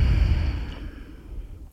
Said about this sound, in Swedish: Andas ut.